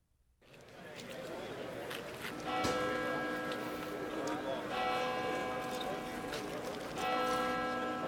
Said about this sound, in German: Der Kirchturm ist der höchste und älteste Turm in der Stadt. Die Glocke schlägt 12 Uhr.